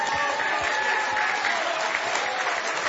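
An audience claps together in steady, dense applause, loud and continuous for a few seconds with no voices rising above it.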